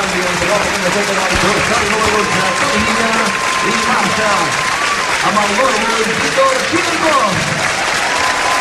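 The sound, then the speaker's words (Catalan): A large football stadium crowd at Montilivi, Girona, stands and applauds steadily as Víctor Tsigankov is substituted by Toni Villa, a dense, loud wash of clapping with shouting and cheering voices mixed through it. “Així acomiada Montilivi, Víctor Tsigankov en el dia del debut, quan el substituirà Toni Villa, gent dreta, i a aplaudiments com aquests.”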